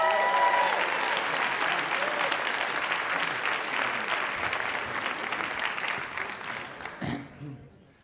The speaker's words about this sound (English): Give a huge round of applause to Sam Ford.